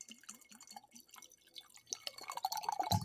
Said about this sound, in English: We're doing a little ASMR. Pouring yourself another margarita there, I see. Yeah. It is National Margarita Day.